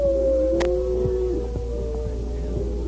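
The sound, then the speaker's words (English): A voice imitates a coyote's wailing howl, given as a signal: one long, sustained cry that holds a steady pitch, wavers slightly and then slides downward, fairly loud with no talking. “As they went down the path, the Indian suddenly gave as a signal the wailing howl of a coyote.”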